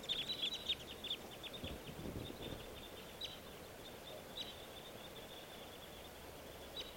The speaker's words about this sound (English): The two crossbills just took off, joining a flock of three others.